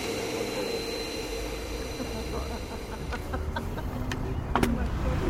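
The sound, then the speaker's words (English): An electric car, on the first test of its new engine, drives by with a thin, steady motor whine over rumbling road and outdoor noise, a few sharp clicks toward the end, and faint voices in the background. “Gentlemen, we have an electric car.”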